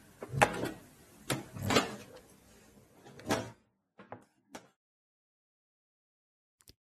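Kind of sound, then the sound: household object, door being closed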